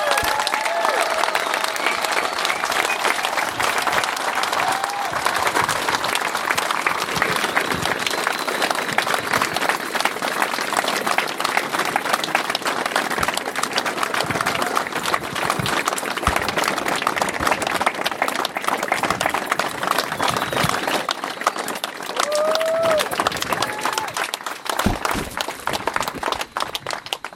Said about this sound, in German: Aber solcher Beifall oder die Rückmeldung, das gibt auch ganz viel Kraft und bestätigt einen,